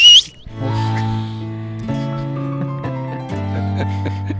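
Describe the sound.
A short, shrill mouth whistle (a "chifle" made without a whistle instrument) during a radio broadcast from Andújar, Spain, with a quick upward flick at the end. It is immediately followed by sustained, steady chord tones of music that continue to the end.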